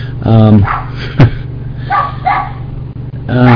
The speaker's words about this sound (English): Yeah, I just wanted to note, hopefully you hear me over my dogs.